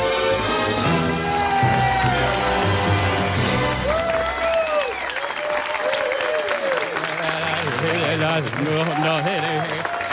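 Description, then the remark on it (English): A huge stadium crowd of 30,000 people gives a standing ovation, a steady loud roar of applause and cheering laced with rising whoops and shouts that never lets up across the whole stretch. “There is a standing ovation from 30,000 people.”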